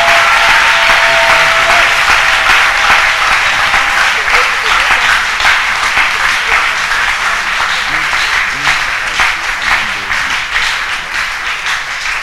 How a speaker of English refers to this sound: Levez-vous maintenant et acclamez le Seigneur. Now stand up and clap for the Lord.